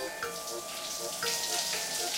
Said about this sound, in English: My mother is taking a shower.